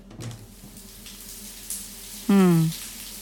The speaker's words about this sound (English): Everything feels so tight and sore. I think a hot shower is exactly what I need.